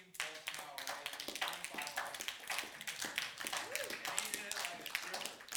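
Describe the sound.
A round of applause: dense, steady clapping from several people that keeps going for several seconds, fairly close, with some voices calling out underneath.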